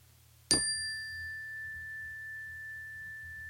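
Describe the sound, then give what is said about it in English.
A Zen meditation bell is struck once, giving a bright clear tone that rings on steadily for several seconds, with a faint low hum in the background and no voices. “I just ordered a beautiful Zen bell. Want to hear it?”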